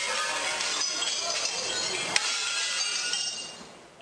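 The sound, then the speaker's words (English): A large glass window shatters as a police officer slams a drunk man's head into it while pulling him off a train; the glass keeps crackling and tinkling for several seconds, bright, with one sharper crack partway through before the scattering fragments fade out. “has been captured on videotape pulling a drunk man off a train and then slamming his head into a large window, shattering the glass.”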